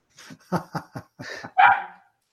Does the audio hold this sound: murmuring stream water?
no